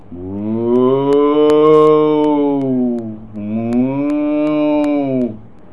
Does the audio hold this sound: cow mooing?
yes